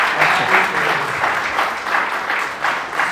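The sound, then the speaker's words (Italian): A crowd of people claps for two longtime friends and ambassadors of Morellino wine, a dense, continuous applause with rhythmic swells that carries on throughout at moderate loudness, with no talking over it. “Prima di parlare della nostra azienda, io volevo fare un applauso”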